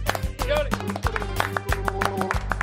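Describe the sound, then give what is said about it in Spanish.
Hand clapping in a steady rhythm, sharp slaps repeating every fraction of a second over a sustained singing voice and a low humming drone. “¿Qué son esas palmas, por favor?”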